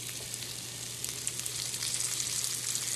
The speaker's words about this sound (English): So we've got our three goat's cheese sandwiches ready to go in. Brush them with the olive oil. It helps crisp them up. Okay, I'm putting that on. You can hear it sizzle. And then we'll close it on up.